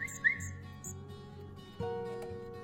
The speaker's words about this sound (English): So we found this little baby bird in the flower bed, and we cannot find a nest anywhere. Come here, little bird.